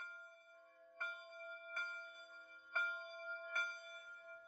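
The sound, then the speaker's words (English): A church bell in the small village of Lower Caslow rings in steady, evenly spaced strikes, each bright clang overlapping the ringing hum of the last. It is a fairly small bell with a joyful tone, clear, with no voices. “Our bell here is, I think, a pretty happy bell. It's not as big as St. Andrew's.”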